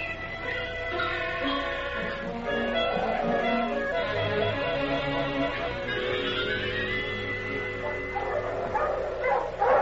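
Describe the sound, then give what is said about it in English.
A team of sled dogs pulling a sled barks and yips in a continuous, overlapping chorus, with excited high-pitched whines mixed in, fairly loud throughout. “I ain't pulling this thing. Talk to the dogs.”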